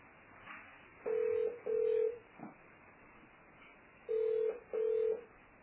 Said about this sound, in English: This man is calling his phone.